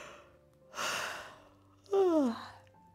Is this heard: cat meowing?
no